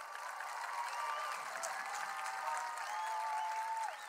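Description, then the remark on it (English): An audience applauding the Lord: a dense wash of many hands clapping at once, sustained at an even level for several seconds with no one speaking. “Yes, applaud the Lord if you want. Go ahead.”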